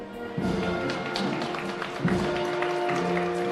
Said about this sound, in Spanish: ¿Escucháis los aplausos también? Totalmente, sí, sí, se escucha todo.